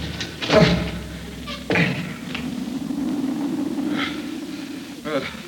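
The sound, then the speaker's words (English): A door is pushed open with a heavy thud and a second clunk a moment later, followed by a steady low rumble and faint voices. “I found the door.”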